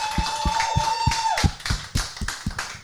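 A small round of applause: a steady series of sharp, evenly spaced claps, joined by a sustained tone that bends downward midway.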